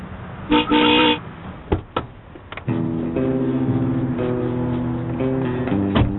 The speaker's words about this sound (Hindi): Horn बजाओ।